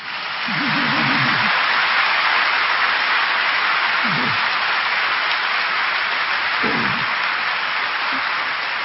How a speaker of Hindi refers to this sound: वाह बच्चे हो ना, जो वाह बच्चे है वो ताली बजाओ।